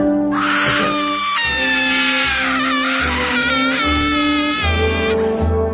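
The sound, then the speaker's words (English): A woman's high, sustained screams ring out over the music of a jingle, rising and wavering in long wails across the whole stretch, loud, with a steady tonal accompaniment beneath. “Listen to the music. Listen to the screaming.”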